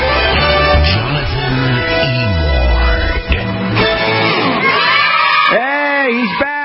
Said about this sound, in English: I know the kids are cheering. Probably your kids too. It's like, Dad, I don't have homework tonight.